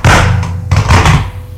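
Medicine bottles knock and clatter together in two loud bursts of hollow thuds and rattles as someone takes several bottles from a medicine cabinet at night, fading off at the end with no one talking.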